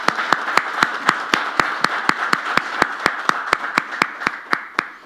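An audience applauds steadily for several seconds, a dense wash of clapping with sharp, evenly spaced claps standing out in a regular rhythm. It's fairly loud and close, with no talking.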